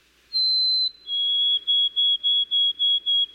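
white-throated sparrow song

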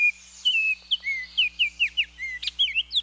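baltimore Oriole song

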